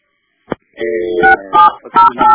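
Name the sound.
telephone number being dialed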